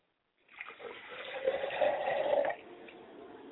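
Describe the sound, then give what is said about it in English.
Water is poured steadily into a glass as a libation offering for about two seconds, a bright gushing that rises slightly in pitch as the glass fills, then stops abruptly, leaving quiet. “Father God, I'd like to pour a glass of water for Oladula Mare, acknowledging Akamare and his three manifestations, Ilede, Ori, and Olorun.”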